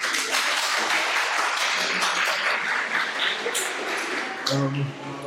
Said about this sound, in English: So, applause for our first volunteer.